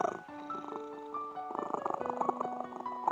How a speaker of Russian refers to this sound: Бродит кот один по дому, да мурлычет монотонно.